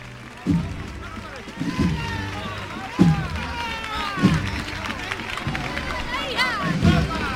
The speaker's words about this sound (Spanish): El palio acaba de revirar, hilando ya la Resolana, justo en esa confluencia con Don Fadrique. Entre vítores, entre guapas. Y aplausos para la Esperanza.